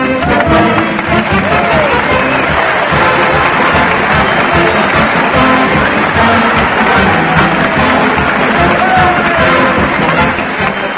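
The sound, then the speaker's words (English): A loud, dense crowd roars and cheers without a break at a weekly parade to the old town hall, streets packed and people lining up to follow a band led with a drum major's baton; shouts and whoops rise from the din, with band music buried in the noise. “The streets are packed and the crowd forms in line ready to follow Fred Allen as he leads the weekly parade”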